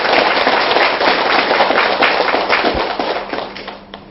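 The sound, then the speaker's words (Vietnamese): A big crowd of Buddhist followers bursts into sustained applause, many hands clapping in a dense, crackling wash that stays loud for several seconds before tapering off at the end. No one speaks. “Nếu quý Phật tử thấy việc này làm là không khó khăn và hữu ích, xin quý vị dành một tràng vỗ tay thật lớn để phát triển.”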